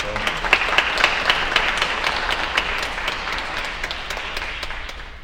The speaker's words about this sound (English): Please give a big round of applause for